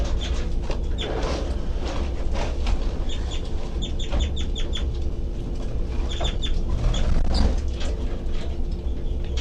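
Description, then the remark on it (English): Baby birds give rapid, high-pitched peeping calls in repeated clustered bursts over a steady low rumbling background with no talking. “doing the high-pitched sea call stuff. Start calling again, baby birds.”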